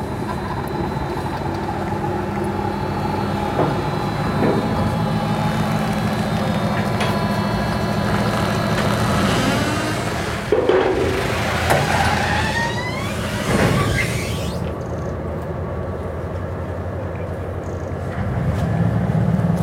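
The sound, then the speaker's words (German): A large ferry engine drones steadily and loudly, its low hum rising in bursts of churning noise as the ferry pulls away on a short crossing of about 100 to 200 meters. No one speaks. “Da fährt er wieder ab.”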